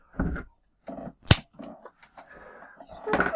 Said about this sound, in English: Yes, I just broke a pencil.